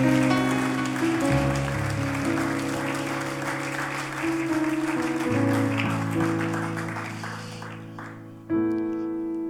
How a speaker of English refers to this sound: Why don't you thank the Lord? Why don't you give the Lord a hand clap of praise if you feel blessed this morning?